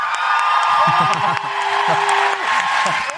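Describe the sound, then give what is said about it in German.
An audience applauds a contestant at a competition show, a dense wash of clapping that stays loud for about three seconds, with scattered shouts and whoops rising over it. “Und jetzt euer Applaus”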